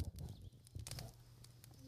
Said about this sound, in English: That is a crackle of a campfire.